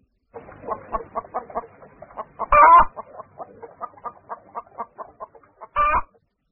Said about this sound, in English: I hear a hen.